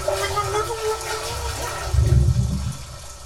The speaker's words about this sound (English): Oh, there's water filling.